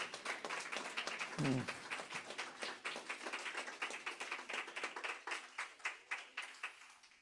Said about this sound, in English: Amen. Amen. If He saved you, give the Lord a hand clap.